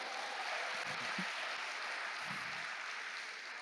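Steady audience applause fills the whole stretch, a dense, even wash of many hands clapping at a constant level, with a few faint low voices murmuring underneath.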